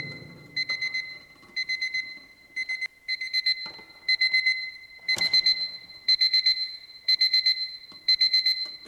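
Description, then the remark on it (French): An alarm clock rings inside a metal box in rapid, high-pitched beeping bursts about once per second, sounding somewhat muffled and subdued but still clearly audible, with no voices present. “Cette fois, la sonnerie du réveil, bien qu'affaiblie, reste nettement perceptible.”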